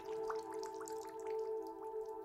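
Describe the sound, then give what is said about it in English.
Water dripping in a Japanese public bathhouse (sento): a quick, irregular patter of small drops over a steady tonal hum, with no voices. “It's really only the sounds of water.”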